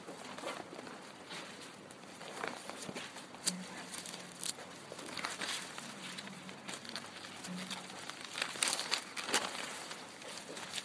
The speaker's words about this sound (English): Well, that rain was short-lived. I appreciate the rain part. I love the rain. I can sit there and listen to it all day. But my voice ain't going to last if I've got to yell over the top of the rain.